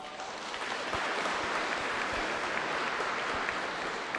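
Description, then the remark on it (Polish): Steady applause from a crowd at the Academy of Social and Media Culture in Toruń, welcoming a graduate and his family, a dense wash of many hands clapping at an even level for about four seconds, with no voices over it. “Wielkie brawa.”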